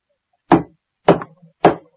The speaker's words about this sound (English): The second man knocked loudly on the door.